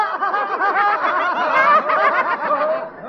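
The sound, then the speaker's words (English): A hyena in a cage among the wild animals at a big show laughing: a rapid, unbroken run of high, wavering giggle-like yelps, each rising and falling in pitch, loud and steady for about three seconds with no talking. “Here on the left, we see the hyena.”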